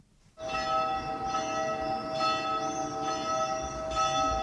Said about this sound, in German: Es ist ein lauschiger Sommerabend im 1300 Seelendorf Eglisswil. Es ist ruhig, ausser der Kirchenglocken und den Vögeln hört man nicht viel.